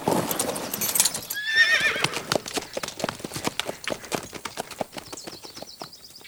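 A horse whinnies briefly near the start, then steady hooves clip-clop in a quick, even rhythm, fading slightly as Axel rides the horse away.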